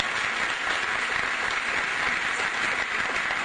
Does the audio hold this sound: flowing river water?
no